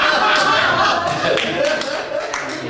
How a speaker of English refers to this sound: Applause break number one. And we got a count going. Only going up from here.